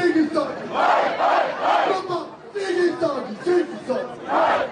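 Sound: crowd cheering and celebrating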